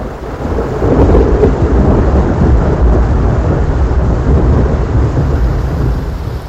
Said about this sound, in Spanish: Fue un 19 de mayo de 1994. Aquella tarde sonaron truenos. Todo parecía un simple aguacero, pero por las calles comenzaron a bajar piedras pequeñas y luego grandes.